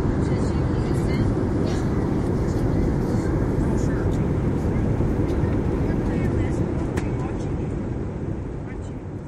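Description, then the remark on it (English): A steady, loud roar of passenger jet cabin noise aboard an Airbus A321 flying from Phoenix to Washington, D.C., a deep constant rumble with a breathy hiss on top, running unbroken for several seconds before easing off slightly at the end. “So if you're wondering why the show is late, it has a lot to do with the fact that it's hell to record a podcast on an Airbus A321 passenger jet.”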